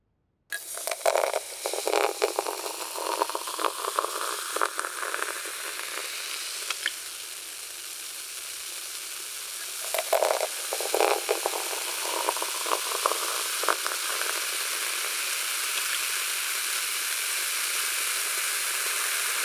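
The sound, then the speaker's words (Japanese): Strongly carbonated water is poured into a tumbler placed near both ears, followed by a steady crackling fizz of bubbles that persists throughout, with a second brief pour partway through. No talking. “では炭酸水注がせていただきますね。”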